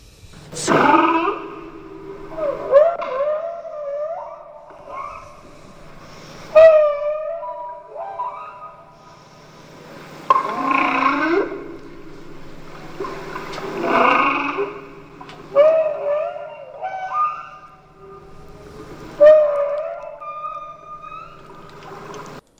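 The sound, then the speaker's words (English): Whale calls recorded with a microphone lowered into the very deep sea, not electronically mixed, provided by Dr. Fred Sharp: a series of moaning, wavering tones with rising and falling pitch, arriving in bursts every few seconds over a steady low hum, with no voices. “Yeah, those are some whale calls that were given to us by Dr.”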